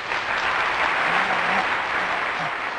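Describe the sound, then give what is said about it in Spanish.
A steady burst of applause played as a sound effect from the control booth of a radio studio, dense and even clapping filling the whole stretch at a constant loudness, with a faint murmur of voices underneath. “Hoy pusiste el aplauso, muchas gracias.”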